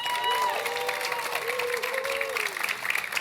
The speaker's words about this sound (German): Einen großartigen Applaus für unser Research Office, Deliria Tremens.